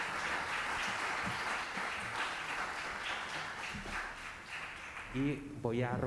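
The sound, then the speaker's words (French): Steady audience applause for a film's director, actors, producer and interpreter being introduced in an official section, a dense rattle of many hands clapping for several seconds, fading as a voice begins speaking over the end. “Alors applaudissons-les pour commencer.”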